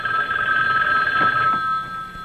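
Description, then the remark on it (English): A telephone bell rings continuously, a steady bright metallic trill that fills the whole moment, with no talking over it. “Hey, why don't you answer the phone?”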